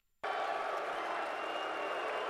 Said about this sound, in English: They're booing. In other words, Goodell cleverly got the Philadelphia Eagles fans to boo themselves.